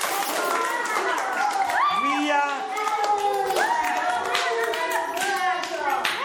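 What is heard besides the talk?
applause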